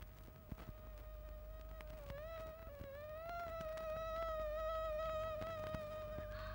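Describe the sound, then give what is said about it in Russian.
Mosquitoes whine steadily throughout in a stable where travellers are trying to sleep, a thin high-pitched buzz that wavers slightly in pitch as if circling, over a low background rumble, with no talking. “Кто это? Комары? Да-да. На смену мухам прилетели комары.”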